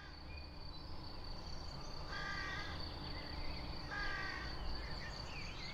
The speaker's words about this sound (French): Des corneilles. Là, ce que vous entendiez, c'était des corneilles.